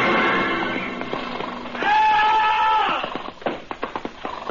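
A horse rears as its rider plunges spurs deep into its sides, letting out a loud, shrill, wavering whinny amid a noisy scuffle, followed by a quick clatter of hooves.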